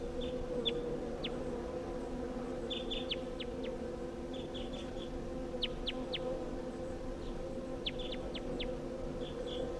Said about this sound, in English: So recording calls of that wild bird.